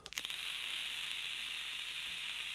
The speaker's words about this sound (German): Das Gute an den Knöpfen ist, ich kann zwischendurch mal dampfen. Das hört sich übrigens komisch an, wenn ich gerade Dampfzeug im Mund hatte und da reinrede.